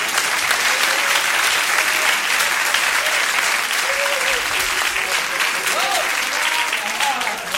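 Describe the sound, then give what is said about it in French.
Loud, sustained applause from a large audience as the holder of a selected number, 433, is called up, dense steady clapping filling the whole stretch, with faint voices and a few cheers rising through it. “Approchez-vous, on vous applaudit très fort.”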